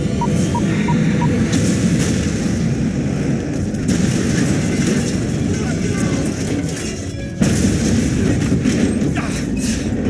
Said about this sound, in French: Puis une deuxième explosion l'envoie valser hors de sa couchette.